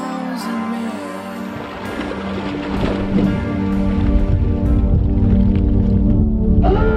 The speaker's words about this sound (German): Wir tauchten ins Wasser und waren sofort von dunklem Schlammwasser umgeben. Verflucht. Null Sicht.